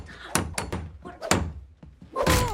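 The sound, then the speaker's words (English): Several heavy wooden thuds land one after another at an uneven pace as Tom boards up Jerry's suite, followed by a brief noisy scrape at the end. “Later, he boards up Jerry's suite.”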